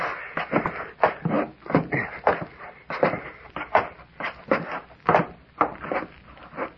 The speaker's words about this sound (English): Hey, the trap door's unfastened. Yeah, it seems to be. Up we go. There it is. Okay, come on up.